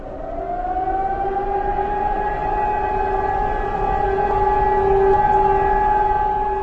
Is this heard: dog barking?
no